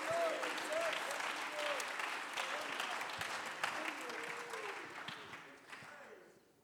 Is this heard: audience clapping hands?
yes